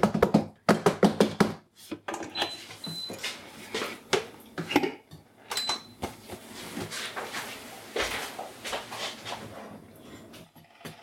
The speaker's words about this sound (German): Du kannst doch nicht mit einem Metallding in eine beschichtete Pfanne. Aber es dampft schon. Der Sesam wird verprügelt.